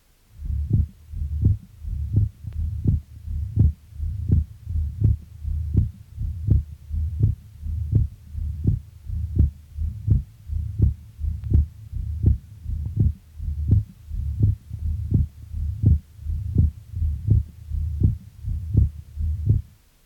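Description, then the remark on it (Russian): A steady heartbeat through a stethoscope, fairly loud, heard over the pulmonary artery of a patient with mitral valve disease: about twenty-five even cycles of low thumping beats, each with a louder, split second heart sound (accented and split second sound), and no voices. “Прослушайте акцент и расщепление второго тона на легочной артерии у другого больного с митральным пороком сердца.”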